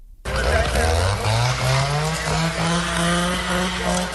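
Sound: chainsaws cutting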